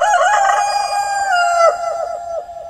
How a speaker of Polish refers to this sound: Wówczas przerażony chłop i jeego żona wpadli na pomysł, że jeżeli wszystkie świece, które były w domu, weszli do kurnika i zapalili te świece przed głową koguta. Kogut myślał, że to jest dzień i zapiał.